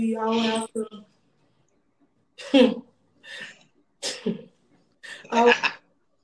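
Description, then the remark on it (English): A person makes a string of short gasping breaths and strained vocal catches with pauses between, like a sneeze building up and being held back without fully coming out. “I was about to sneeze.”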